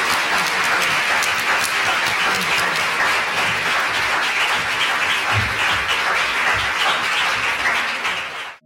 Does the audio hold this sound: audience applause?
yes